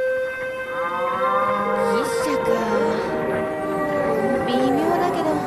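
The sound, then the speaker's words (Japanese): An ox pulling a cart moos in long, drawn-out bellows that rise and fall as the ox cart arrives, several calls overlapping almost without pause across a few seconds, loud. “またも都合よく通りかかった、今度は牛車に乗った王子様。”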